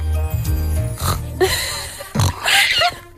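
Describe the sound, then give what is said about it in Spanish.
Several pigs oink and grunt in quick succession, a string of short, nasal snorts and squeals rising and falling over a few seconds, fairly loud. “Tendrás que imitar luego de escuchar a los cerdos.”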